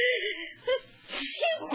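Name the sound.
sneeze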